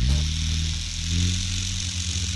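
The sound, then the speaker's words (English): A small toy helicopter with a hardened polystyrene body, two rotor blades and a tail fin, controlled by a remote controller, is fired up; its rotor spins steadily, giving a continuous high whirring buzz with a low motor hum underneath, fairly loud and unbroken, with no talking. “So that's just the sound of the rotor spinning.”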